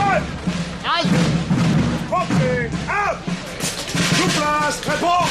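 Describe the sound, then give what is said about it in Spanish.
Cannon booms and gunshots ring out amid loud, continuous shouting from many voices during a street reenactment of a battle in Madrid, with troops shouting in French over the blasts. “Escucharemos disparos, cañonazos y los gritos de las tropas en francés.”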